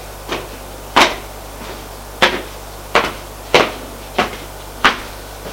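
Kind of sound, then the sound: household object, knocking on a door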